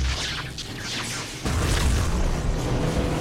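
Crackling, sweeping electrical noise gives way to a sudden, loud thunderous boom that rumbles on steadily, as lightning strikes the surface of a planet. No voices present.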